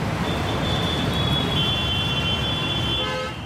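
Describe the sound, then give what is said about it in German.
Loud, dense city street traffic in an Indian metropolis, with a constant low rumble of engines, a long sustained horn blaring through most of it and a few shorter honks near the end. “Ein Schritt, der beim Verkehrslärm in Indiens Metropolen nachvollziehbar ist.”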